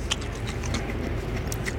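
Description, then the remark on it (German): A few brittle crunches as a hard candy that was being sucked is bitten and cracked between the teeth, short crackly bursts scattered over a steady low droning rumble from a helicopter overhead. “Und jetzt zerbeiß ich's.”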